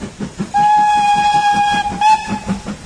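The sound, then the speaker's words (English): A train pulling away after all the doors are shut and the guard gives the signal with the flag: a loud, steady whistle sounds for about two seconds with a brief break near the end, over a rhythmic low chuffing that runs throughout. “and see the passengers got off safely, like, and then all the doors were shut, then with the flag, and we were right away.”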